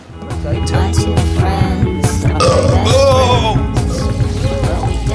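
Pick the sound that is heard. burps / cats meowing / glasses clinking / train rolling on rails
burps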